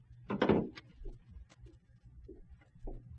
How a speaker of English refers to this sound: Shh, huh? The door's opening. Yeah, somebody's coming out.